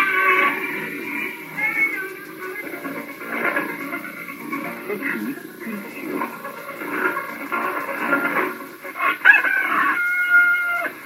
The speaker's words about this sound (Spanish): Ahí estábamos escuchando sonidos de gallos. Exactamente, la apertura de un programa matinal por Radio Malí.